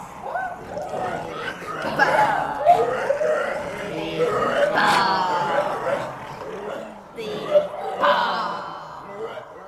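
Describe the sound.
A jumble of pig-like grunts, snorts and high squeals, apparently voiced by people imitating companions transformed into pigs by Circe, overlapping continuously at a fairly loud, steady level throughout.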